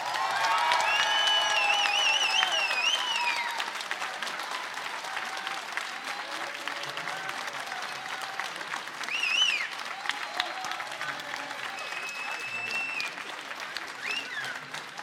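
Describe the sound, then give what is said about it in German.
Sustained audience applause voting for second finalist Mona Harry, with many hands clapping in a dense, steady wash, plus scattered high whistles and a few cheers rising over it, loud throughout the whole stretch. “Macht einen Riesenapplaus, wenn ihr sagt, dass Mona Harry das Ding heute gewonnen hat.”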